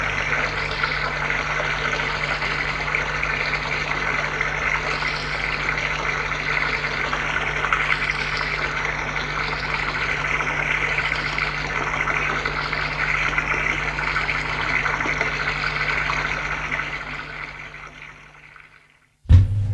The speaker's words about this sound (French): Elle se déshabille. Va dans la cabine à douche. Et elle se douche.